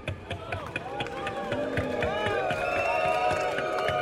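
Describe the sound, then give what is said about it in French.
An audience claps steadily throughout, a dense rattle of many hands mixed with scattered voices, whoops and cheers. It stays fairly loud and even for the whole stretch. “C'est une belle contrepartie sociale que l'on peut applaudir.”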